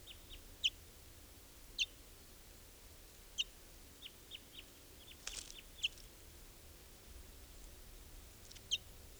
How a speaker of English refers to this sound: I'm standing right next to a bird. Barely fledged, I think.